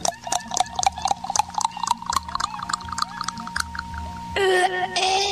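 A shot of cachaça glugs from a bottle into a small glass in quick, uneven bursts, the filling tone climbing steadily in pitch. A brief, brighter tonal sound follows at the end.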